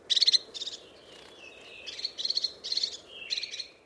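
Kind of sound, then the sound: bird, crested tit calls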